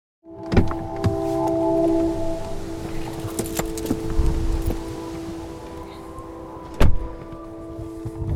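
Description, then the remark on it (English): Inside a car: a steady low engine hum with a faint whine, scattered clicks and rustling, and a sharp knock or thump near the end. “I love meeting people in cars. This is my office.”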